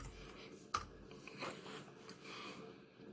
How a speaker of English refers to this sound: I'd be typing all day, and somehow I can't even figure out how to type words on laptop. That's crazy.